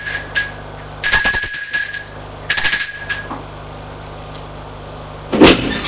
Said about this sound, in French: Le lendemain, matin, Gilbert va chez Julien pour travailler. Il sonne à la porte.